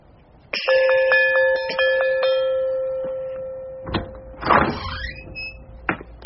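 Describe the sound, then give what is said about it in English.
A visitor's doorbell at the door to a party rings out with a bright, sustained tone struck several times in quick succession for a few seconds, fading into a brief rattling clatter and a sharp knock. “I'll try the visitor's bell.”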